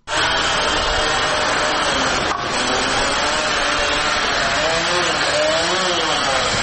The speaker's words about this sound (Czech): Zvuci mešalica, bušilica i čekića koji se prelamaju sa zvucima motora automobila svakodnevna su slika centra Novog Pazara, gde je, po našoj proceni, oko 20 radnika već završilo grube radove do gradnje Fakulteta za islamske studije